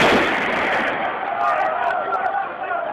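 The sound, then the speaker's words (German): Loud, dense crowd noise from a street protest, with people shouting, broken by a few sharp cracking reports that sound like gunshots going off amid the chaos. “Eine Demonstration in Tunis, gefilmt offenbar von Passanten, letzte Woche bei YouTube hochgeladen. Das Video heißt Scharfschützen der Polizei töten.”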